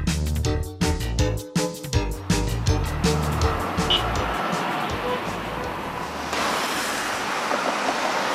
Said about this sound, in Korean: 베이징 거리를 보여주는 영상을 보면 분명 자동차 경적 소리는 들리는데 화면은 뿌연 스모그 때문에 자동차가 지나가는 모습조차 제대로 보이지 않을 정도입니다.